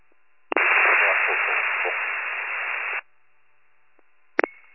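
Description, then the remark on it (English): A loud hiss of radio static lasts about two and a half seconds and then cuts off abruptly. After a short quiet gap comes a brief crackling squelch burst, with no voices heard. “Nothing but static.”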